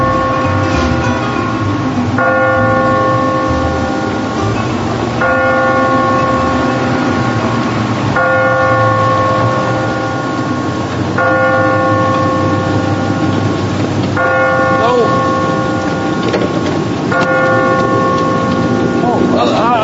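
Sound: clock bell striking midnight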